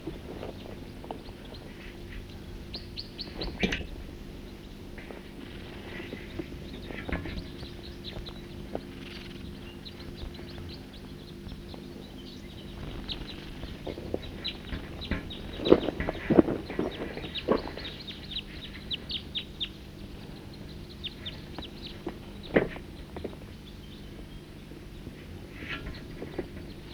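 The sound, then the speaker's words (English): Scattered short chirps and calls from a good number of birds drinking at Cataract Creek in a hollow among trees, over a steady low outdoor rumble like running water, with a few louder bursts of activity partway through. “The birds are here, drinking from the creek.”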